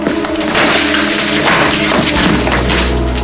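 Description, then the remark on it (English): A loud crash as a framed photo is pounded down hard on a dresser and its glass shatters, a dense burst of smashing and breaking that fills the few seconds, with a low tonal hum underneath. “He stares at the photo of Linda, then picks it up and pounds it on the dresser.”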